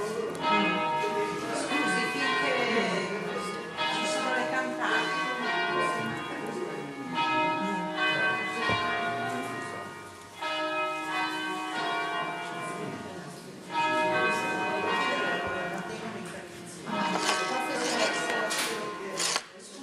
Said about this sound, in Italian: Intanto che aspettiamo che le campane terminino.